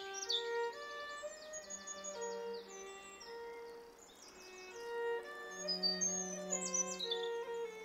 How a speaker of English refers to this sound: Two birds singing in a deeper register, and another with a rasping cry. No swallows yet.